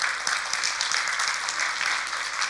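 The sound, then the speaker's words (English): A crowd applauds steadily, many hands clapping together in a dense, continuous wash of sound that stays at an even level throughout without pausing or fading. “So why don't we give these three a round of applause?”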